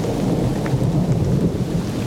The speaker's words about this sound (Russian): себя сидящим в лесу на веранде дачного домика, вокруг лес, дождь, гроза. Вдыхайте в себя запах леса. Запах леса смешивается с запахом дождя.